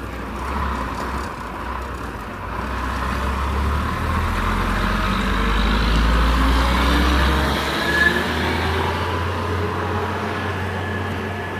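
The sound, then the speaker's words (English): A heavy, noisy dump truck rumbles past on a humid day, its deep engine drone and road noise swelling to a peak midway before easing off slightly, with no talking. “Actually, no, that's a dump truck. A noisy dump truck, but a dump truck.”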